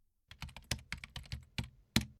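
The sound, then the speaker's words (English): Irregular keystrokes clatter on a computer keyboard while someone fills in contact information on an online survey form, about a dozen crisp clicks in quick succession with short pauses between, no voices present. “Okay, I'll do the typing.”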